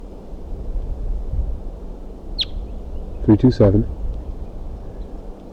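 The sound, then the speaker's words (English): A perched female crossbill calls as another wild crossbill comes in, over a steady low rumble of wind: a single thin, high chip, then a quick run of three short, buzzy notes a moment later. “She's calling, and there's another wild crossbill coming in.”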